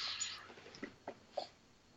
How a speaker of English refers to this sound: Was it the dog or the cat? This is the dog again. Dog again, got it. Little Luna.